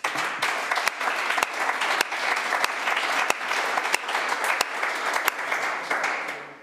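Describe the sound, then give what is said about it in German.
An audience at a CVD Baden evening gathering claps steadily for several seconds, a dense wash of hand claps with a few sharper, louder claps standing out, holding an even level throughout with no one speaking, giving heartfelt applause to thank those who travelled far to attend. “Auch dafür einen herzlichen Applaus.”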